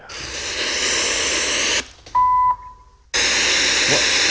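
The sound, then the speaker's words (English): A clear electronic beep from a device's external speaker, signalling it can't go any louder, a steady high tone lasting about a second, briefly set apart from a loud, continuous hissing noise before and after it. “Okay, so that Scott just made the external speaker beep, which basically means he can't go any louder.”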